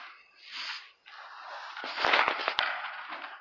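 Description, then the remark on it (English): Paper crinkles and rustles in a steady crackly wash, swelling louder midway with a few sharp snapping pops, then settling back into softer rustling. No one speaks. “Crinkle, crinkle.”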